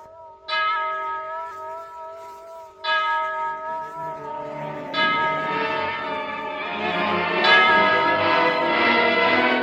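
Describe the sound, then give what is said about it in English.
A clock strikes eight o'clock with slow, deep bell strikes roughly two seconds apart, each ringing on and overlapping the next so the tone builds fuller and louder. No one speaks. “The end of the story, the clock strikes 8.”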